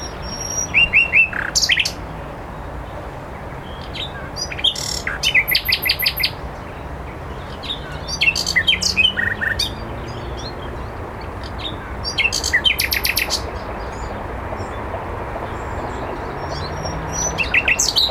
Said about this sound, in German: Viele Komponisten und Dichter haben sich von der Nachtigall inspirieren lassen. Ich habe 4 Minuten von ihrem Gesang aufgenommen. Und dort war sie noch lange nicht fertig. Ich spiele euch einen kleinen Abschnitt vor.